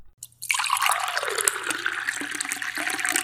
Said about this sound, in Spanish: Ahora vuelve a acercarse el agua. Ruido de agua.